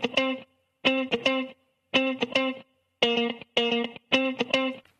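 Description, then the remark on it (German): A funky electric guitar riff at 110 BPM plays alone, with short, bright chord stabs repeating in a tight, syncopated pattern at a moderate groove tempo, clear with a slightly processed tone. “Einfach so eine funky Gitarre, die klingt so.”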